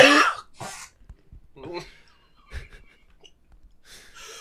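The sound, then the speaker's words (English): A harsh coughing fit from a sick man trying to laugh: several rough, explosive coughs in quick bursts with a throat-clearing rasp and breathy gasps between them, no words spoken. “Also, we're just every time he tries to laugh, man. He just coughs and just.”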